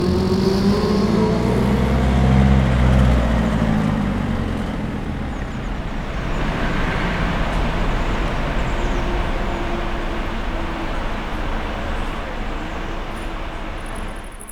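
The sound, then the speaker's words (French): A loud, steady roar of very powerful car engines and derestricted scooters pushed to full throttle up a steep climb by a bridge in a city, with a deep droning hum in the first few seconds, settling into a continuous rushing mechanical noise with no one speaking. “Donc tout ce qui est moteur de voiture très puissante ou les scooters à fond débridés, ces bruits de mécanique poussés à fond.”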